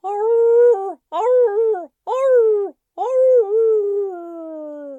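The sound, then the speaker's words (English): A hound dog, Flop Ears, howls in four long, wavering bursts separated by short gaps, the last one drawn out and fading slowly. The howls are loud and mournful, with no other sounds around them. “One time, a real cat came into the yard and Flop Ears got so scared stiff she hid behind Imogene's legs and made the awfulest hound dog howl you have ever heard.”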